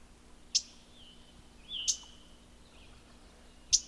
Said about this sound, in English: This bird that's chipping is actually a mourning warbler. I can see its little black bib. Pretty husky chip.